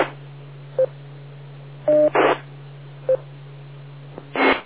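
Short electronic beeps from a radio repeater linked through Echolink: a few brief tones and one two-note chirp, spaced irregularly over a steady low hum, with bursts of hissy static and no talking.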